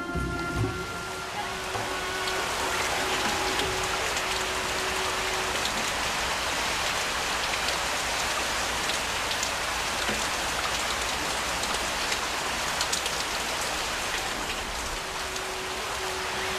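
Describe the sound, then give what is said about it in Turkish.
Steady, heavy rain pours down continuously, a dense hiss of drops pattering on surfaces, with no voices and only a faint low rumble beneath. “Bu yağmur 7 yıllık bolluk ve nimetin başlangıcı anlamına geliyor.”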